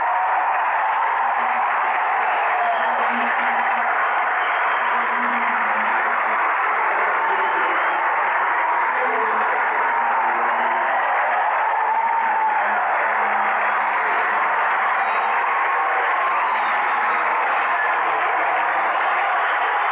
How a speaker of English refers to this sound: Big Matt, listen to the crowd. They come to their feet.